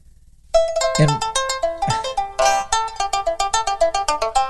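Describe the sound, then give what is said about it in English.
An electronic phone ringtone starts abruptly and plays loudly, a bright tonal melody in quick, evenly spaced pulses that repeat rapidly toward the end, with no one speaking over it. “And it's funny how the death phone calls always came in right in the middle of one of my stories.”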